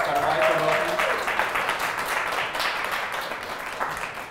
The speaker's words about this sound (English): So, yeah, give them a little round of applause.